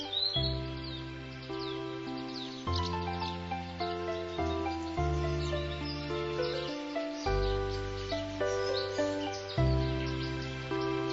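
Birds chirp and tweet in spring in quick, scattered calls throughout, layered over steady, sustained music that dominates the mix; the chirping is moderately loud, with no one speaking.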